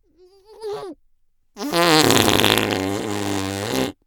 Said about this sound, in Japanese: おならぶっかけてあげるから